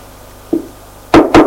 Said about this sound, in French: On a frappé à la porte.